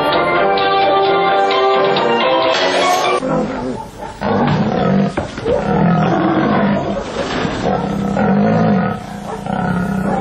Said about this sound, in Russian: Если вы послушаете, просто послушайте, а не посмотрите работу, допустим, дрессировщиков тигров, львов, вы услышите совершенно определенную звуковую кулису, которая свойственна только этим номерам.